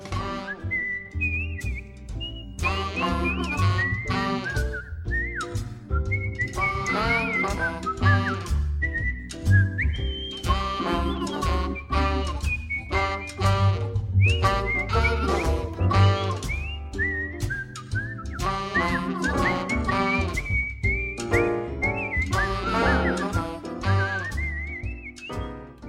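A jazz whistler, a Naptown cabaret and jazz singer, whistles a clear, melodic tune that glides and bends over a steady jazzy accompaniment of bass and chords, the whistle bright and prominent throughout with no talking.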